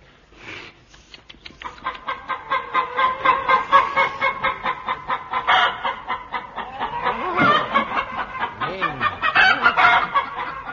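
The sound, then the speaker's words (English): Several voices of the cast of The Goon Show imitate clucking brood hens, a dense, rapid, overlapping stream of bawk-like clucks with rising and falling squawks, loud for about ten seconds, with no ordinary speech. “Ladies and gentlemen, with the entire cast unfortunately turned into brood chickens, we are forced to close this series of The Goon Show.”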